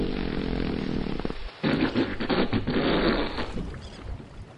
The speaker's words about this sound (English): Oh, look. A whole pod of whales approaching our boat. Oh, they're coming quite close. How beautiful they are. Do humpback whales communicate by farting? Yes, one will fart and another will fart back. Listen.